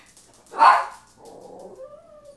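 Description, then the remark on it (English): A puppy, being offered Cheerios as a treat, lets out one sharp yip, followed by a quieter, drawn-out whine that trails off at the end. No one speaks. “Give it to the puppies?”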